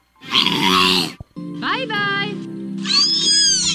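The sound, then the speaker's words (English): A killer whale imitates a human voice in three drawn-out, speech-like utterances, each buzzy and low with squeaky, warbling high overtones, separated by brief pauses. “Killer whales mimic human voice. Take a listen.”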